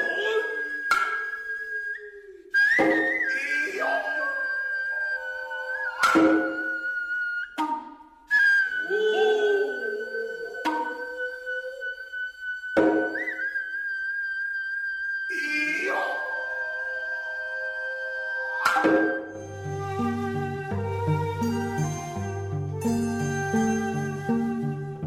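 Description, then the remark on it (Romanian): Sharp, spaced Noh drum strikes (kotsuzumi and otsuzumi struck with the palms, taiko with sticks) alternate with shrill, wavering kakegoe shouts from the percussionists over a sustained high flute tone, before a denser, steady layered instrumental texture takes over near the end. “În general, kotsuzumi și otsuzumi sunt lovite cu palmele, iar taiko folosind baghete, sunetele tobelor fiind însoțite de scurte țipete ascuțite emise de percuționiști, numite kagegoe, al căror rol este acela de a amplifica tensiunea.”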